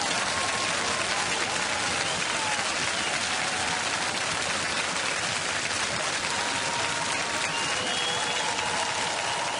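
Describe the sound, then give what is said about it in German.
Recorded applause plays at the press of a button in a studio at the CSU headquarters for the CSU party congress: a steady, dense wash of many hands clapping at an even loudness for about ten seconds, with no talking over it. “Applaus per Knopfdruck, das soll es heute geben bei diesem CSU-Parteitag.”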